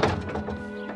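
A social worker closes the doors of a van with a single dull, heavy thunk, followed by a short resonant decay over a low steady hum.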